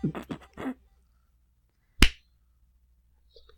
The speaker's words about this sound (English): That didn't sound right. Early. Yeah. Yeah. Did you clap a second too early, or was your timer no, a second I too clapped early? A second too early.